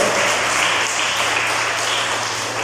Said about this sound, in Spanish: Denle a Cristo ese aplauso, por favor.